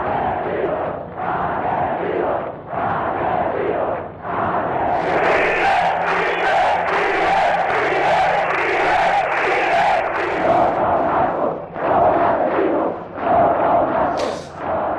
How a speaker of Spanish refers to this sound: Las movilizaciones fueron muy, muy importantes desde el primer momento y, por lo tanto, hubo unas diferencias, yo creo que notables, ¿no? En Ermua se gritó asesinos a ETA desde el primer día.